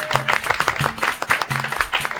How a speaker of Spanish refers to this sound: Aplausos.